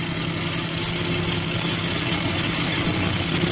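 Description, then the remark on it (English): The engine of an approaching tape truck rumbles steadily at a constant loudness, a low droning hum with a gritty mechanical texture. No voices are heard. “When the truck gets close enough, I'll put the searchlight in the driver's face like before.”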